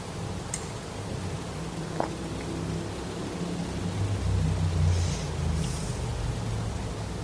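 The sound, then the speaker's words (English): A motorcycle passes somewhere outside in the evening, its low, muffled engine rumble swelling gradually to a peak partway through and then easing off, with no talking. “And even the motorcycle, just realized right now, it's the very first time this evening.”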